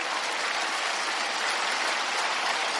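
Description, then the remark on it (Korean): Steady crowd applause, a dense hiss of many hands clapping at once with no gaps, holding an even, fairly loud level throughout. No voices are heard over it. “이럴 땐 박수 한번 나와야 되는데.”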